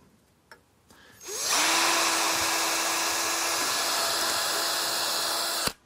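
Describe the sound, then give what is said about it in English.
A small power drill with a bit about an eighth of an inch spins up and runs steadily at high speed for about four seconds, drilling a small pilot hole through a center-punched mark, a loud whine with a constant tone, then cuts off abruptly. A couple of faint clicks come before it. “All the pilot holes are drilled.”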